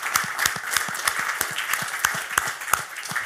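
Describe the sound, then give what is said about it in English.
A crowd applauds steadily, many hands clapping in a dense, continuous patter with a few sharper claps standing out, moderately loud throughout, an audience's round of applause for a ShareScope staff member at an investing event. “And the biggest round of applause, please, for Paul Hall in the back there from ShareScope, who's been doing all of this for you.”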